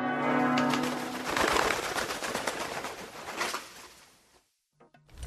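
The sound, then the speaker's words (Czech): Bells ring loudly and continuously, a sustained tonal chime opening into a dense, clanging peal of overlapping strikes that fades out near the end. No one speaks. “U pucnjavi nemačkih topova povremeno kao da se čuje nešto što podsjeća na zvonjavu zvona.”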